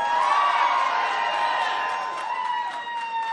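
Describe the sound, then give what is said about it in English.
A large crowd at an Erie County Democratic Committee gathering cheers and whoops loudly, with scattered clapping throughout. The roar stays steady before easing off slightly at the end. “Hold your applause.”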